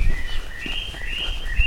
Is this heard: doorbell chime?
no